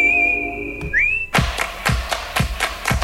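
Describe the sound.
A clear, sustained whistled melody from the film Kill Bill holds a high note and swoops upward, then gives way to loud, steady hand claps repeating about twice a second.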